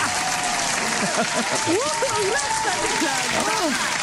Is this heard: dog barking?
no